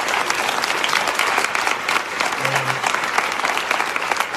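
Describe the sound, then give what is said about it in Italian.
An audience claps steadily for several seconds, a dense, even wash of many hands, with no pauses and no one speaking over it. “Facciamo un applauso”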